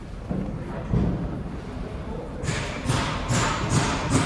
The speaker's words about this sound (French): Voilà, vous entendez les coups de marteau déjà.